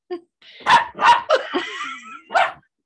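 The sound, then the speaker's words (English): A female dog, happy to see a visitor, barks excitedly: a handful of loud, sharp barks in quick, uneven succession, with a brief whiny yelp drawn out between them. “Your dog is being crazy.”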